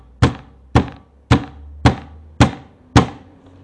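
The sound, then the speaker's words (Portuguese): A door that kept opening and closing bangs shut six times in a steady rhythm, each a loud, heavy wooden thud with a short ringing decay. No voices are heard. “Aí, assim, simplesmente, eu tava comendo, almoçando, e a porta ficava abrindo e fechando.”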